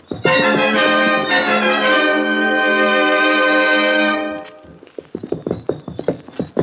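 A sustained musical chord rings for a few seconds, then fades into a quick, steady run of hoof clip-clops as horses are ridden off at a brisk pace, around to the back entrance of a blacksmith shop in town at night.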